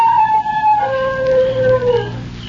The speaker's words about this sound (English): He howled.